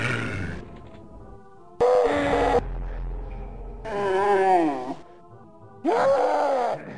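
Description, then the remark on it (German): Zombie soldier moans from the video game Doom: four loud, guttural groaning bursts, each about a second long, separated by short gaps, with harsh growling tones that rise and fall in pitch. “Nun, da wäre eine große Anzahl von Soldatenzombies.”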